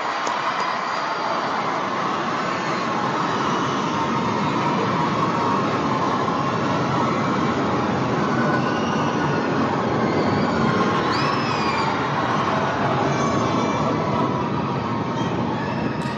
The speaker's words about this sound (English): There are the main boosters. Here we go. And exactly. Waiting for liftoff. You're going to see these fall away as the vehicle starts to pull itself away from and Earth. We have liftoff. The Tim's away. Big cheer.